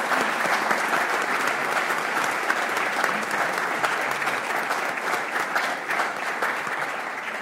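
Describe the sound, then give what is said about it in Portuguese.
An audience at a ceremony in Póvoa de Lanhoso applauds steadily for several seconds for everyone who appeared on the stage, a dense, even wash of many hands clapping at a constant loudness without pause or voices on top. “peço para todos eles, todos os que passaram por este palco, uma grande salva de palmas e o meu agradecimento, o agradecimento da Póvoa de Lanhoso, pelo vosso trabalho, pela vossa dedicação, pelo vosso amor à causa.”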